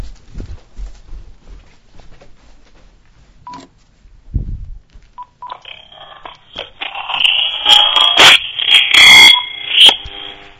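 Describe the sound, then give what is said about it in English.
Thin electronic low-battery warning beeps from a phone, repeated tones that begin faintly and grow louder and more insistent, mixed with sharp clicks and handling noise near the end as phones are switched, with no one speaking. “My phone was actually beeping, and I had to switch phones.”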